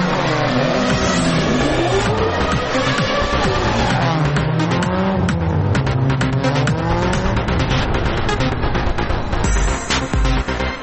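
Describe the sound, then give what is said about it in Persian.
A racing car engine revs loudly and continuously, its pitch sweeping up and down through gear changes, with tires squealing over the roar and no talking. “الان میخوایم بریم سراغ ایستگاه اتومبیل رانی و موتور سواری”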